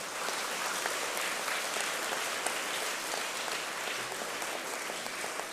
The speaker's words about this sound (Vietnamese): Nếu các con không muốn Việt Nam mình nằm ở trong cái nhóm thứ hai tồi tệ này đó thì hãy cho một tràng vỗ tay cam kết an toàn giao thông.